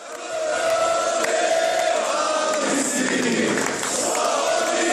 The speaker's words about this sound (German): Bei seiner Ankunft am Flughafen in Zagreb im Jahr 2014 wurde er von mehreren Kamerateams und hunderten jubelnden Anhängern im Terminal empfangen wie ein Held.